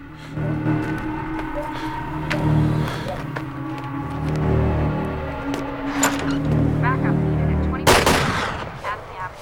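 Sharp gunshots crack out at a hut over a steady low engine rumble, with one loud burst near the end standing out above the ongoing droning background noise.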